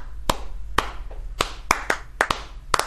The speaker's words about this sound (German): Also natürlich muss man bei den meisten erstmal mit den Vierteln anfangen, Achteln und wo ich immer stolz war, wenn ich es geschafft habe, dass jemand eine Klave klatschen kann. Mhm. Also immer die 3-2-Klave. 1, 2, 3, 4.